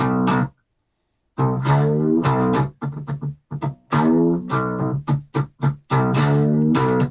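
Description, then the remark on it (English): A twangy, distorted homemade electric guitar made from a cookie tin bolted to a stick, with a hand-wound pickup, plays a run of plucked notes and strummed chords, with sustained harmonic tones, a brief pause after the first note, then a choppy rhythmic phrase. “But I think we can all agree that that sounds suitably guitar-like for Definitely. What is a cookie tin bolted to a stick.”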